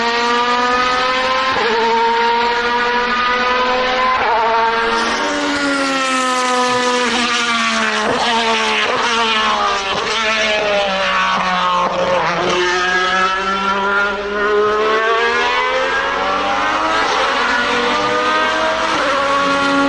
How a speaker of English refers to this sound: No, so that is that's an Alpha 155 DTM car from early 90s, early to mid 90s. Was it the four wheel drive? Yeah, four wheel drive, V6. How big was the engine? Two and a half liter.